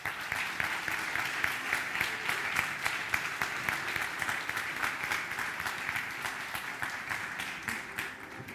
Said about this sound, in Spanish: Gracias por acompañarnos y queremos recibirte, por favor, con gratitud y este aplauso.